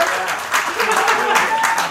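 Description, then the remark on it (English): An audience claps and cheers loudly and steadily as chef Dominique Ansel is welcomed onto a panel, a dense wash of applause with scattered whoops rising above it. “You can raise the roof. We just don't want to hear your phones, but we do want to hear you cheer.”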